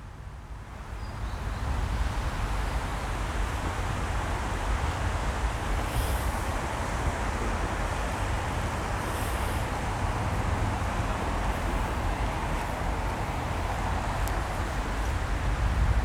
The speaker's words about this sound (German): Den Wind hören, das Rauschen.